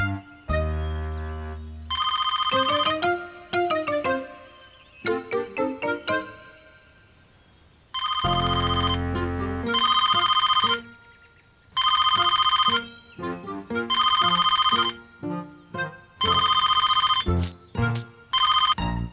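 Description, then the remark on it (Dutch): A telephone rings during an outgoing call, with a bright, melodic electronic ringtone, repeating in loud bursts separated by short pauses. No one speaks over it. “Ik zal haar bellen en vragen of ze ook mee wil doen.”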